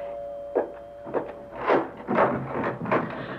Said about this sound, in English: Will you open the door